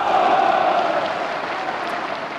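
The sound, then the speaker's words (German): The National Socialist-dominated Reichstag assembly cheers and applauds in approval of 77 state-ordered killings, including 50 SA leaders and Ernst Röhm: a dense, steady roar of clapping and voices that stays loud and unbroken throughout. “Jubelnde Zustimmung des nationalsozialistisch beherrschten Reichstages für 77 Morde von Staatswegen, darunter 50 SA-Führer, einschließlich Ernst Röhm.”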